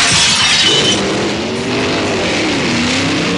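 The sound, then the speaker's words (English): A loud crash of breaking glass bursts out as a brick is thrown through a house window, and a car engine quickly revs and roars over the fading debris, with no voices. “Who threw a brick through your window?”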